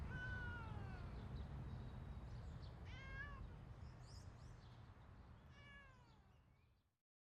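A cat sitting outdoors meows three times in drawn-out, plaintive calls spaced a couple of seconds apart, over a steady low rumble of outdoor background noise that cuts off at the end.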